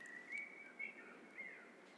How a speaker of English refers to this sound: Let the sight of the risen sun, let the sound of the bird song fill you so that you are a beacon of compassion, of love, of care for everything that exists.